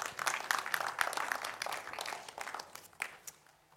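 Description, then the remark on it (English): A church audience in England gives a round of applause to visiting men and women of God as they come forward, dense overlapping clapping that stays steady and fairly loud before gradually thinning and fading toward the end. “Why don't we give these faithful men and women of God a round of applause as they come here.”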